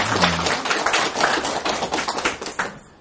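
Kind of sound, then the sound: crowd, audience round of applause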